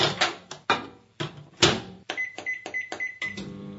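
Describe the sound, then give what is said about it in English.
A microwave oven: a few sharp clunks and clicks, then a steady run of four short, high-pitched electronic beeps at an even pace, with no one talking. “It's a microwave. That's right. Famous sound there.”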